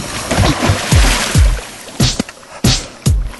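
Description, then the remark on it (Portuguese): Someone wades into shallow water, each step making a splashing slosh in a steady rhythm, followed by a few heavier, sharper splashes near the end. No voices. “Agora eu vou entrar na água pra vocês verem o que acontece com essa luz no nosso corpo.”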